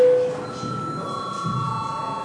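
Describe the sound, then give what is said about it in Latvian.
A steady electronic bell tone rings continuously, bright and sustained, calling a vote in a parliament, with a faint murmur behind it and no voices speaking. “Lūdzu zvanu.”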